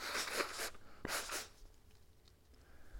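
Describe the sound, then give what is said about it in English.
A breathy, hissing buildup gives way to one sharp, explosive sneeze, followed by a fading rush of air and then quiet. There is no speech. “I'm wanting to sneeze and have all the appearances of having a cold.”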